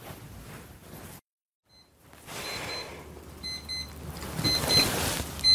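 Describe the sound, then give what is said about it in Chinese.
An alarm clock rings with rapid, high electronic beeps in repeated bursts, fairly loud, over a steady hiss that follows a brief moment of silence. “这是一个闹钟，我把闹钟关掉。”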